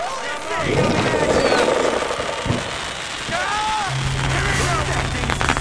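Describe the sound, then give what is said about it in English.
Several sharp fireworks bangs and crackles go off amid rising and falling whistles, over a noisy, chaotic background with voices and a low steady hum near the end; people on a boat are lighting fireworks and hurling them at a fish surfacing near the boat. “As the fish surfaces near the boat, they light the fireworks and start hurling them at it.”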